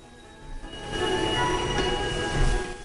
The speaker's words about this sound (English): Steam billows out from under the wheels. Light floods from the windows of the occupied carriages. The conductor leans out, waving his lamp. As the train slows, he leaps off onto the snowy ground. He walks along beside the train as it comes to a stop.